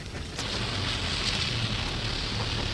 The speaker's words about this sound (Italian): Ecco, questa è la pioggia dal vivo, sentite. Ma pioveva quel giorno, cioè adesso sta piovendo.